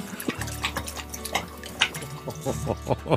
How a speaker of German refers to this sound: Der Hund ist effizient. Das heißt, wenn er trinkt, ich habe mal mitgezählt, dann schlabbert er bis zu 120 Mal.